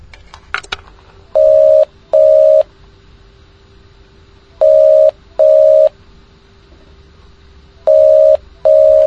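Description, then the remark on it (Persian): Telephone line tones as a direct phone call is placed on the BBC programme 'Nobat-e Shoma': a click, then a steady low tone beneath three pairs of loud, evenly spaced electronic beeps, clear with no one speaking. “سعی داریم یه ارتباط تلفنی مستقیم با آقای همکار برقرار کنیم تا پاسخگوی شما شنوندگان عزیز باشه.”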